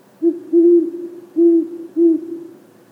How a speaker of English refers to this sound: Anyway, young male owls start practicing their hooting call at an early age, but they won't perfect their hooting until their first spring, at the earliest.